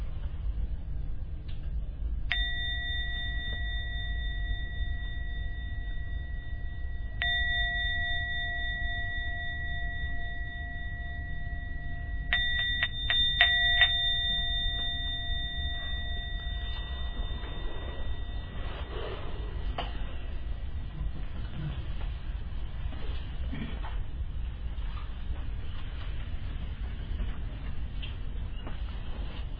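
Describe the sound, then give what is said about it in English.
A gong is struck three times to end a meditation, several seconds apart, each ring leaving a long, bright, shimmering tone that lingers and slowly fades over a low background hum. No one speaks. “Ring the gong 3 times, and on the 3rd ring, please come out of your meditation.”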